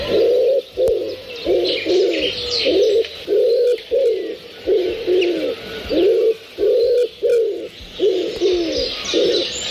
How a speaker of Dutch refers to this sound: We waren bezig met een heel ander thema, namelijk over de duif. De houtduif, ja. En de vraag waarom hij zijn zin nooit afmaakt. Wacht, ik kan het nog even laten horen. De houtduif die zijn zin niet afmaakt.